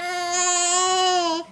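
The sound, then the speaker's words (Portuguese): A baby girl lets out one drawn-out, high-pitched babbling vowel, fairly loud, holding steady for over a second before breaking off, with no other voices. “Oi, bebê! Agora ela quis pegar meu cabelo.”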